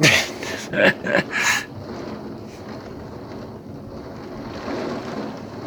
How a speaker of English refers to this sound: I hear that storm rumbling.